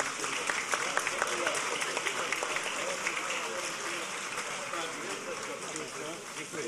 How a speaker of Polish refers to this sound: Piękny moment, żeby uhonorować naszych laureatów. To jest ten moment, w którym wszyscy z uśmiechem na twarzy celebrujemy dzisiejszą uroczystość. Dziękujemy bardzo. Wielkie brawa raz jeszcze.